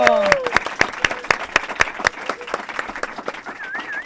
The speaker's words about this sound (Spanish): ¡Un fuerte aplauso!